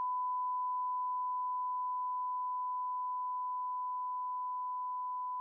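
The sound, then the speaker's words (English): A steady, unbroken telephone tone holds a single pitch for several seconds during a call to the phone company, fairly quiet and even, with no voices and no breaks between beeps. “I would be thrilled to do any episode as soon as you're off the phone.”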